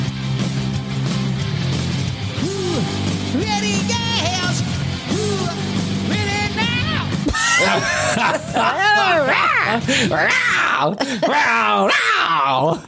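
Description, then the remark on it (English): A man mimics cat meows in a string of drawn-out, wavering yowls and wails, loud, growing more frantic toward the end over a steady low hum. “He's like making cat noises up there.”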